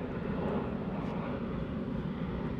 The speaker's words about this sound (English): And it's like plane.